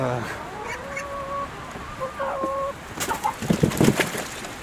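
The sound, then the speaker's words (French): Hens cluck and call in short, overlapping bursts as they are given salad from collected food waste, with a few drawn-out tonal notes early on and a busier flurry of clucks toward the end. “Le premier truc qu'on va faire, enfin sur ce type de déchets, c'est qu'on va aller les donner aux poules.”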